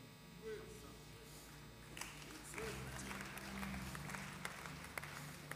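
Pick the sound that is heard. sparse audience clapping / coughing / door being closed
sparse audience clapping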